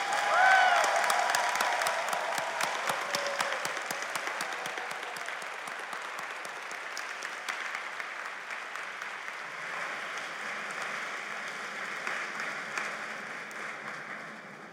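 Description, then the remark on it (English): Sustained applause from a large audience at a 2023 graduation ceremony for Doctor of Philosophy graduates in Electrical and Computer Engineering, a dense crackle of many hands clapping that starts strongest and gradually tapers but continues steadily, with a few faint cheers mixed in. “Let's give them a big hand of applause.”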